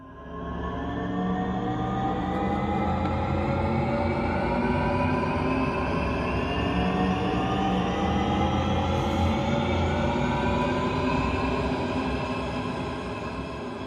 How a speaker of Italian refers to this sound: Un rombo aereo, una carcassa metallica con sei inequivocabili finestrelle accese sul palcoscenico e tante bianche figure. Così comincia Oltre, lo spettacolo di Fabiana Iacozzilli